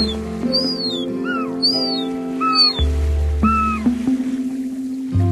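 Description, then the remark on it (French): Juvenile herring gulls call overhead in a series of thin, plaintive, downward-sliding whines, several in quick succession, over a steady low engine drone. “Il y a des jeunes goélands argentés. Ah oui, au-dessus de nous.”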